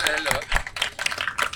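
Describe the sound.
Audience applause welcoming a guest onto a show, a steady crackle of many hands clapping at moderate volume, with a voice speaking over it at the start.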